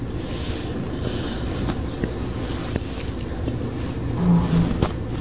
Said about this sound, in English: What's that sound? Oh, that sounds just the, it's just a dryer working.